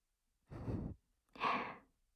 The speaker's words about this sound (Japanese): すごいあくびだな。そんなに疲れたのか。